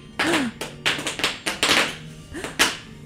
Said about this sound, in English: But I do hear some scraping of sticks outside on the crosstown concourse doors.